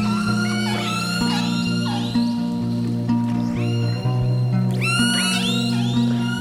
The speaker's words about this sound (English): family, group, or pod of killer whales actually has its own unique set of sounds, a repertoire of very distinctive calls.